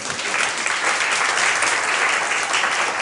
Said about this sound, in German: Hast du wieder einen Applaus? Jedes Mal, mega schön, wenn wir live auftreten. Heute sind wir in der Mörsburg zu Winterthur im Restaurant Schloss Halden.